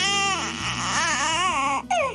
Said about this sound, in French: Après le pleur correspondant à la faim, … décrit celui du sommeil. C'est un son qui est très visuel.